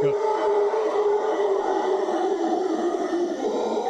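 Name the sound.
howler monkey calls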